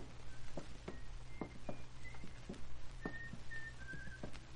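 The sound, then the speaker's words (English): A man whistles a faint, muffled tune from behind a closed door on a building's second floor, while footsteps or light taps sound sporadically over a steady low hum. “Hear him whistling?”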